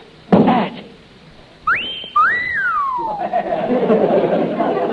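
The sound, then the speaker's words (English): A loud, clear wolf whistle from a bell-striking strength-test game machine, sounding after a hit to rate how well the player did: a quick rising note followed by a longer swoop up and down, preceded by a dull thump, with a murmur of background noise afterward. “A wolf whistle.”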